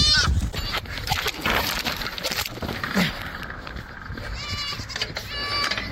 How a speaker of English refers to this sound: Put the goat down. Drop the goat.